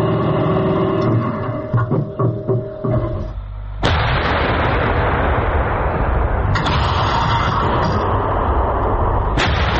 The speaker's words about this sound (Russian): В тот момент экипаж еще не знает, что вновь ведет огонь по российскому орудию Д-20. Попадание фиксирует украинские БПЛА.